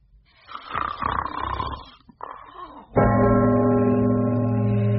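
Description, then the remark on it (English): A loud, exaggerated snore voiced by a man asleep in bed: a rasping, breathy intake followed by a sustained, buzzing growl that holds steady until the end. “He sat up in bed suddenly in the midst of a prodigious snore.”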